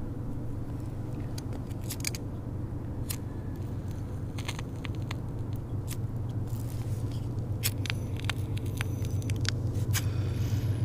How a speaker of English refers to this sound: I love the ambient noise of the trains. And the highway. Well, I mean, I guess a highway for out here. It's only one lane.